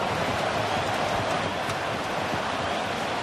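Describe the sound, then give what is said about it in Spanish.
Hail crackles down steadily over a football stadium in Madrid during a 1995 match, making play impossible, a dense, even hiss of countless tiny impacts with sharper pops scattered through it, holding at a constant loudness with no voices. “Lo que se oye crepitar es granizo.”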